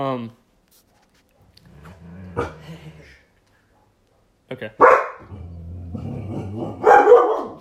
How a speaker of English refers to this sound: Okay. Sorry about that, guys. They're hearing a dog barking.